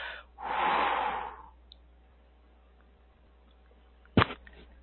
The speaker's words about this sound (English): Lots of breathing, …. Like deep, deep into the body